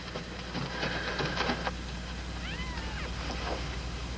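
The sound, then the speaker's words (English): An injured female cat with a broken leg gives a couple of thin, plaintive meows, fairly faint, over a constant low hum and noisy background, with some clattering rustles just before. “Call Frank Weaver and tell him we got a cat out here with a broken leg.”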